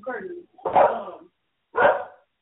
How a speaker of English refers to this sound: Here my dog go.